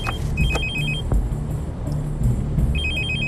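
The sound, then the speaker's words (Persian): A mobile phone left behind rings with an incoming call from an unknown number, in two bursts of rapid trilling electronic tones, muffled from inside a bag, over a low rumbling background like a moving car. “تلفنتونه؟ فکر کنم صدا از تو اون کیف داره میاد.”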